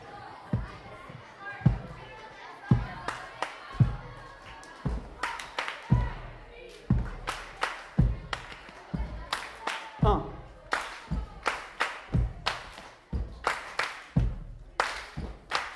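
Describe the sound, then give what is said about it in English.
Steady, rhythmic stomp board percussion for a morning prayer: deep wooden thumps interlaced with sharp hand claps, played loud in a repeating beat, with faint voices murmuring in the background. “I'll be doing the stomp board.”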